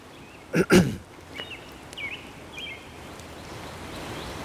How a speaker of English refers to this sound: I don't know if you can hear the rain. I'm outside. It's raining lightly. Everything's wet all over the ground, the grass. Birds are singing. There's a creek here that is flowing now because it rained hard this morning.